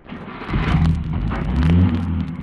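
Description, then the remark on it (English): A car engine turns over and catches, then revs up with a rising, rumbling drone as the vehicle accelerates on a mountainside, loud and steady with no voices. “Quickly, Petrie, this car. At least we'll be able to continue our journey.”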